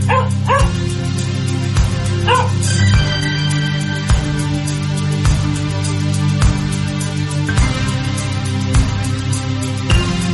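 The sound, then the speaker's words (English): A dog barks in short, sharp bursts, a couple of loud yips near the start followed by scattered barks, over a steady, droning low background that runs throughout. “Scaring the local cats and dogs.”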